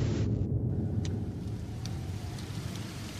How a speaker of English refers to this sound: What in the world? It's raining. What the? Why, that's not right. Mother, have you ever seen rain that's black like this?